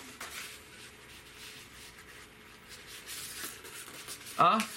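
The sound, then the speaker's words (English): Soft scratchy rustling of string being pulled through yellow paper, with papery rubbing that swells and fades over a few seconds; a brief voice sounds near the end. “Here, I'm going to even put my string through. You put my string through the yellow paper.”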